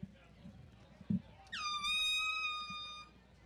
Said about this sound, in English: As someone has an errant air horn in the stands. Listeners, you're welcome for that one.